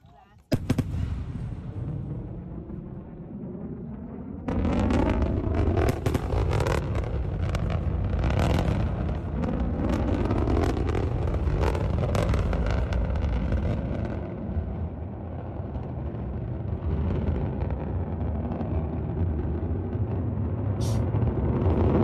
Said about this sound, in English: SpaceX landing back onto the Earth. Look at this. Two rockets in a row. It's amazing when the rocket starts you know, deploying its explosion force, you hear it in sound.